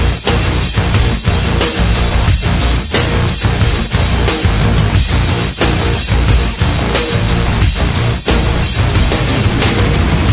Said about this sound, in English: Kill it, music. Stop. Just stop. Everything.